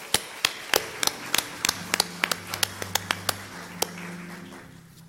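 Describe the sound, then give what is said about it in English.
Scattered, irregular hand claps from a church audience recognizing the Sunday School ministry staff, a couple of dozen sharp claps over a few seconds rather than a dense roar, with a low sustained tone underneath. No one speaks. “Let's have a round of applause to recognize all of our staff.”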